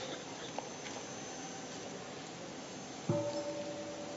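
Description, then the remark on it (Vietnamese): After a few seconds of faint hiss, a temple bell is struck once, softly, as the 'waking sound', a half-strike announcing that a full bell sound will soon follow. It gives a muted, mid-pitched ring that holds briefly and fades. “Tiếng thức tức là nửa tiếng thôi. Đó là gọi là tiếng thức. The waking up sound.”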